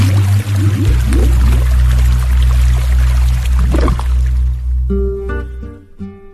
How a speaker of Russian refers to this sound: На мосту его мотнуло, повело, перевернуло и с моста в реку. Бултых, вот и нет его в живых.